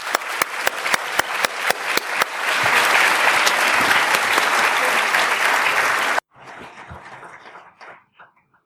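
An audience at an LSE event breaks into applause welcoming the guest speaker, the German Minister of Defense: scattered sharp claps build into a dense, steady roar of clapping that cuts off abruptly, then a quieter burst of applause trails away.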